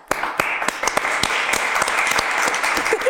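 A dense burst of applause from a small group, many hands clapping together with a few sharper individual claps standing out, steady and loud throughout.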